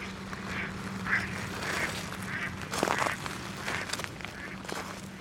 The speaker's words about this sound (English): Here we are, at the city beach in the evening again, dozens of ducks resting,